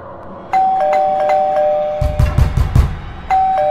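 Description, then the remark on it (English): An electronic doorbell chimes several quick bright tones, then a burst of about five heavy knocks sounds before the chime rings once more, loud with no voices. “The viewer then goes on to describe how his anxiety and blood pressure raises through the roof every time he hears a knock or doorbell sound.”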